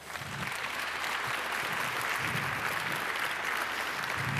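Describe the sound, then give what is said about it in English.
A crowd applauds steadily to welcome a speaker on CPU development, power and open source, dense clapping forming a continuous crackling wash that holds at an even, fairly loud level throughout without fading. “So please give a very warm round of applause”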